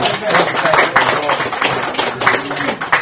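Audience applause: a dense, steady patter of many hands clapping at once, loud and continuous for a few seconds with small swells in intensity.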